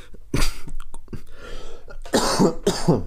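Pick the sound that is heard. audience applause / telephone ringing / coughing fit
coughing fit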